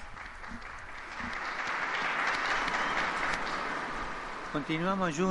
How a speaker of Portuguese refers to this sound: ontem, em Cracóvia, foi beatificado Michele Rapaz, sacerdote fiel e generoso, testemunha do Evangelho, que experimentou tanto a perseguição racista como soviética e respondeu com o dom da vida. Um aplauso ao novo Beato.